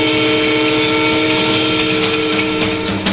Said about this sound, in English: Watch out for the train.